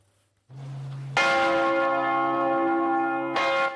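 Church bells of the renovated Matthias Church in Budapest, Hungary, which received four new bells, ring out loudly, a deep low toll joined by brighter overlapping peals with long sustained harmonic tones, swelling and continuing with no voices.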